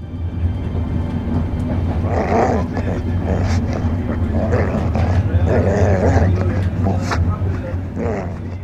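A dog growls in low, rumbling bursts in a train compartment over the steady drone of the moving train, the snarls rising and falling several times.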